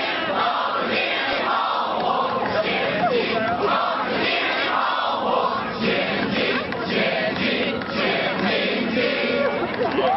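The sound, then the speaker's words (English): A large crowd of student protesters at a Free Tibet protest at Duke University in Durham, North Carolina, where hundreds of Duke's Chinese students outnumbered the Free Tibet crowd, shouts continuously, many voices overlapping in loud, rhythmic chanting and yelling that never lets up. “The Free Tibet crowd was far outnumbered by hundreds of Duke's Chinese students. Here's some tape from that event.”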